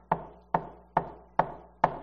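Five firm knocks on a door, evenly spaced about half a second apart, fairly loud, each a sharp rap that quickly fades, with no one speaking.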